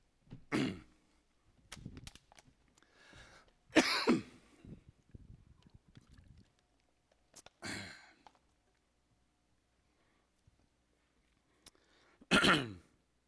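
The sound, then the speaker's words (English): Several harsh coughs and throat-clearing bursts from a person with a cough come in irregular clusters, with short quiet gaps between them and a final loud cough near the end. “Excuse me, I have a cough.”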